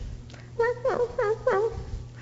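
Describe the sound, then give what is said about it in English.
Four short, high-pitched whimpering cries in quick succession, each a wavering whine, from a puppy crying at night in a little box set beside a bed, fairly loud over a low steady background hum. “Do you know what little puppies do at night? They bark. And sometimes they just cry.”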